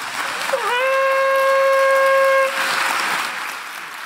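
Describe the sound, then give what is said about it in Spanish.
A crowd claps steadily throughout, while a single loud, sustained trumpet note rises briefly and holds for about two seconds over the applause before cutting off. “Y ahora sí, que suene la trompeta y que aplaudamos nosotros también.”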